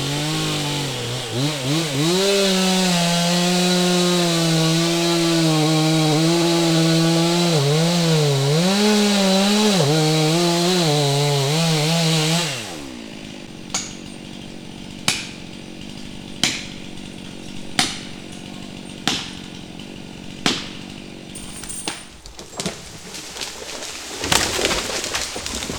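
A chainsaw runs loud and close, its engine pitch rising and dipping as it cuts through wood, then cuts off halfway, leaving a quiet outdoor background broken by a series of sharp, evenly spaced knocks.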